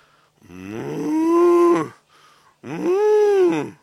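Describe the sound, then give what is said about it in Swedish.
A cow moos twice, calling for its calf: two long, loud, drawn-out calls with a short pause between them and nothing else around. “Kossan ropar på sin kalv.”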